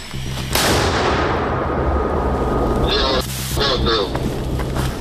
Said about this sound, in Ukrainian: І от це чергова робота мінометного розрахунку.